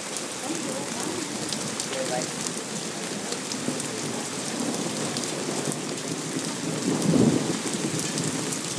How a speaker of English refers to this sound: As you can hear, just rumble after rumble of thunder and torrential rain.